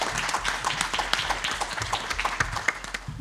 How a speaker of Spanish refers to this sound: Un aplauso para nuestro amigo Víctor Sáez.